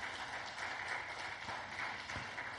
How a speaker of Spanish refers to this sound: Dele una ofrenda de palmas al Dios de la gloria.